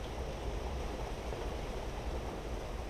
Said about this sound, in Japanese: 家の中で聞く雨の音、いいですよね。